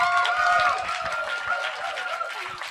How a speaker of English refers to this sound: Thank you. What a lovely welcome. It's nice to be clapped before you've even said anything.